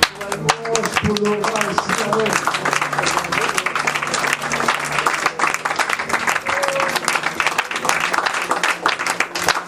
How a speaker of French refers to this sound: Applaudissez le Seigneur.